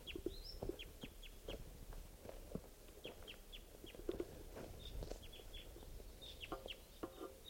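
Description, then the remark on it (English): A wild bird, noted as type 2, calls repeatedly from the trees at 5:41 in short, clucking bursts mixed with brief high chirps. The calls come in an irregular rhythm, moderately loud, with soft rustling and no voices. “There's a wild bird, type 2, calling from the trees here.”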